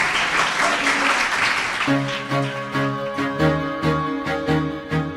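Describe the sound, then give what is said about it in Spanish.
An audience breaks into dense, steady applause for the director of Salesianos for about two seconds, then a bright musical jingle with sustained tones starts up and carries on over the fading clapping. “Un aplauso.”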